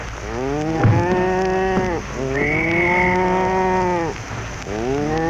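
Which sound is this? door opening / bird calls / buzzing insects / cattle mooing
cattle mooing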